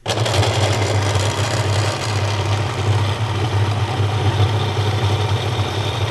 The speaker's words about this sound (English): That's the sound of the McSherry blender going flat out at 20 past five in the morning. Hope no one's trying to sleep upstairs. Granola, yogurt, apple, blueberry and grapes.